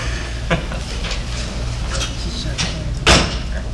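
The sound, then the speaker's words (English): Doors being closed: a soft knock early on, then a firmer thud near the end, over a steady low hum and faint background murmur. “Can you close the doors?”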